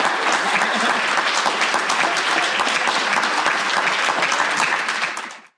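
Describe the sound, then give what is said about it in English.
An audience claps steadily at the end of a TDSIG event day, a dense, loud wash of applause that holds at an even level for about five seconds before quickly fading out. “So hopefully you would clap along with me to say, hey, it was a great day.”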